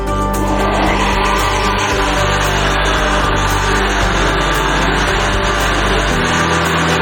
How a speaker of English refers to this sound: And then we're going to add around about a cup and a half of the mixture from the water. So about a cup and a half. And we're going to blend it all up.